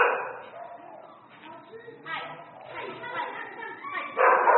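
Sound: beagle dog barking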